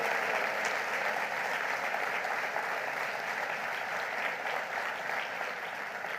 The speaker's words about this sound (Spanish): Vamos, den un aplauso fuerte y diga: gloria a Dios.